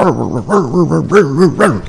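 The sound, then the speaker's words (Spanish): A voice imitates a dog barking, a quick run of about eight rhythmic woofs, fairly loud, with no other sounds around. “Y de golpe ha terminado de ladrar y se ha ido.”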